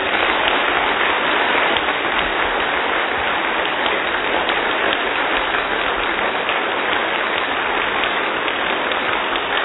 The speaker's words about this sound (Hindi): बहुत अच्छी, बहुत बहुत अच्छी बात है। कम से कम यहां से सही मानों में तालियां बजाना तो आप सीखें